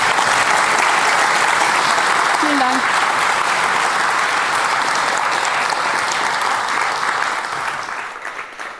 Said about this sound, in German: Applaus nochmal für alle.